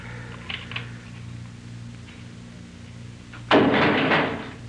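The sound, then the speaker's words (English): A heavy jail door slams shut with a single loud bang near the end, its clatter ringing briefly before fading, after several seconds of quiet low hum with no talking. “Close it.”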